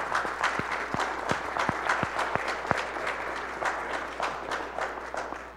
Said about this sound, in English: Please give him a round of applause for all the work he does.